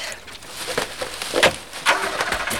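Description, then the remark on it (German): A car engine starts and the vehicle pulls away as someone flees from a cornfield, with a broad, uneven rumble that swells in a few surges over a couple of seconds. No one speaks. “Da war jemand, aber er ist weggefahren.”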